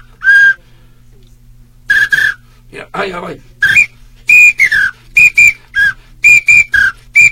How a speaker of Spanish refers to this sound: Huicho, ese silbato se escucha feo, ya no lo toques.